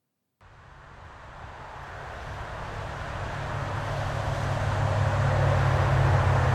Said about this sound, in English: The traffic whizzed by the biker, riding down Route 30 towards York, Pennsylvania.